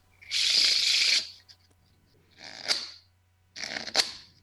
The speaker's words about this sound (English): He always has a deck of cards in at least one hand. One hand shuffle.